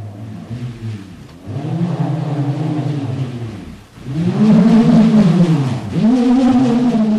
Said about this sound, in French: On va écouter ce que ça donne. On ne sait pas encore à quoi il servait aux hommes de la préhistoire, mais on va écouter ce rombe.